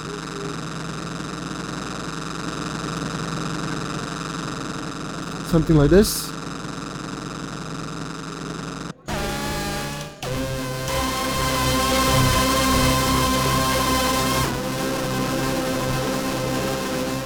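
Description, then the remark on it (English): A steady, buzzing drone built on a Motor Synth synthesizer, with rich stacked overtones, briefly swept partway through, then switching abruptly to a brighter, denser sustained tone from a different preset that continues to the end. A voice speaks briefly. “So we can build a drone on the motor synth, which is actually a very good instrument for drones.”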